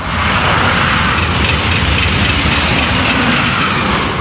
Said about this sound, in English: High-speed tracks for AVE trains came along a couple of years later, running about 100 feet from the rear of their home. AVE trains between Madrid and Seville pass by several times an hour. Here's what that sounds like.